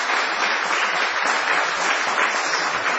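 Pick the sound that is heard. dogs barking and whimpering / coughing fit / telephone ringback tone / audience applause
audience applause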